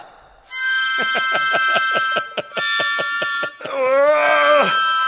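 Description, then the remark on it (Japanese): A personal security alarm, a crime-prevention gadget, shrieks loudly: a piercing high electronic tone pulsing rapidly for a few seconds, then switching to a wavering, warbling siren wail before cutting off. “これ、防犯用にもいいし、防犯グッズにもなるし”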